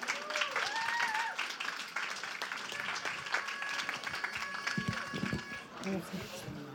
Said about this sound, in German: Einen Applaus bitte.